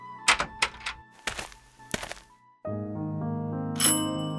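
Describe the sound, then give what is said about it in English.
A few dull thumps come first, then a doorbell chimes with a bright, ringing tone that sustains, struck a second time before fading out. It is fairly clear, with no voices. “He rang the doorbell.”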